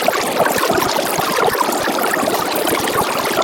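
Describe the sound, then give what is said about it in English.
Extremely sped-up speech: the real audio of the GOP debates, an hour and 45 minutes long, sped up and compressed repeatedly to about 10 seconds with no pitch shifting. It forms a dense, continuous rush that sounds like flowing water, with rapid flickering chatter and steady loudness throughout. “I sped this up and compressed it over and over again until it was down to 10 seconds.”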